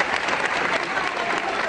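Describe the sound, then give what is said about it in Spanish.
Dense, sustained applause and shouts from a large crowd supporting Carme Forcadell as she enters the Palacio de la Justicia, a steady wash of many hands clapping at once with no pauses, loud throughout. “Aplausos y gritos como este que escuchan.”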